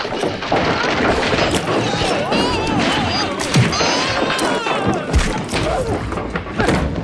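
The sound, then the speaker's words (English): A chaotic scuffle of repeated thuds and whacks, struck irregularly and loudly, with shouting and cries from several voices throughout as a group knocks a man down and thrashes him mercilessly. “The Palkatents leak on … and trash him mercilessly.”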